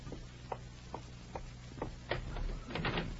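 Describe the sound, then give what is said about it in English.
A few evenly spaced soft knocks or steps, then a louder cluster of clicks and rattles as a front door's latch is worked and the door swings open. No one speaks. “Oh, dear, I have to answer the door.”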